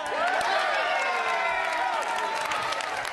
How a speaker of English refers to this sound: … was one of the people cheering. He's head of mission operations for the European Space Agency.